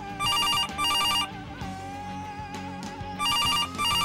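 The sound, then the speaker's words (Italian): A telephone rings insistently in two bursts of rapid, loud electronic trilling, with a pause between them while music plays underneath. “Il telefono non la pianta.”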